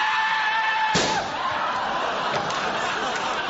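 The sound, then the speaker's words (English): A single loud, sharp gunshot, fired at a man attacking with a banana, cracks out against a steady background hiss, followed by fainter rustling and murmuring noises. “You shot him! He's completely dead!”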